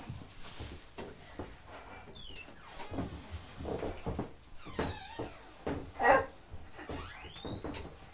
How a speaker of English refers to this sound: I shut the door. Shut the door.